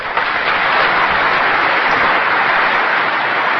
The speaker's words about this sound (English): A rousing round of applause for Lyndon Baines Johnson in 1965